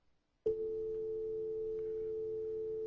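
A malfunctioning landline phone suddenly gives off a loud, steady electronic tone that starts abruptly and drones on without a break, with no voices alongside it.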